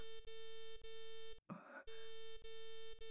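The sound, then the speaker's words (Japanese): A steady electronic notification tone rings with a regular pulsing rhythm, cut off midway by a short, rough noisy burst before the same bright tone resumes. “この通知音は魔法のスクリーン。”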